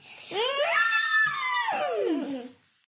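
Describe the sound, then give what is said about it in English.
Two children aged 7 and 5 imitate an elephant with one long, loud, high-pitched trumpeting wail that swoops upward, holds for about two seconds, then slides down and cuts off. “This is our elephant impression.”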